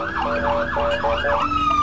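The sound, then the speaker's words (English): Wailing sirens of Bibi's (Netanyahu's) motorcade convoy on Gaza Street in Jerusalem sweep up and down in a steady rising-falling cycle, loud, over a low rumble of street traffic, then settle into a single held tone. “Bibi's noisy convoy that would wake us every morning.”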